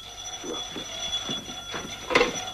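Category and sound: household object, telephone bell ringing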